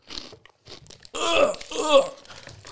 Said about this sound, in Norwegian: Ta en bit bare da, bro. Han tygger rett faen, han tenker ikke på korona.